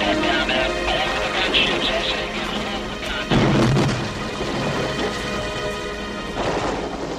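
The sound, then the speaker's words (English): Loud, chaotic gunfire from the battle scene in the film Platoon where Willem Dafoe's character Elias is shot by the Viet Cong in Vietnam, with heavy booming bursts and a dense, rumbling wash of shots, Samuel Barber's Adagio for Strings as a sustained musical tone running underneath. “He's shot by the Viet Cong after being left behind by his own helicopter mates.”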